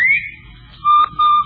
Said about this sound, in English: Of course, you've heard the cheery whistle of the Bob White.